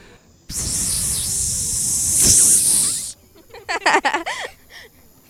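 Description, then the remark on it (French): A person imitates a snake with a long, loud, steady hiss lasting a few seconds, followed by a short burst of quick breathy, voiced sounds. “Est-ce que ça vous dérangerait ou pas d'essayer d'imiter le bruit d'un serpent ?”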